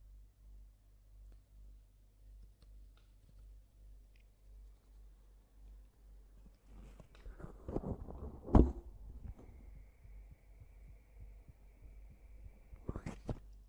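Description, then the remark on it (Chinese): A soft, muffled heartbeat thumps steadily, heard by leaning against a person's chest, then rustling contact noise and a sharp click break in while a faint steady tone hums underneath. “你要是真的不信的话，来， 感受一下我的心跳。”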